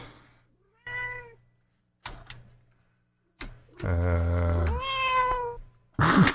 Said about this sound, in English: He sounds like a cat. It is a cat. You're a cat. Meow.